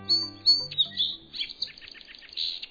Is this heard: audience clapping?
no